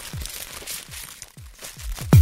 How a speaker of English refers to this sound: That's a good rapper. Classic wax paper.